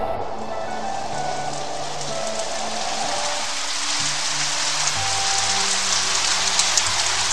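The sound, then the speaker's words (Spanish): Steady rain pours down continuously, a dense hiss of drops pattering on surfaces, even in loudness throughout, with faint low tones humming underneath and no voices. “La lluvia no paraba de caer.”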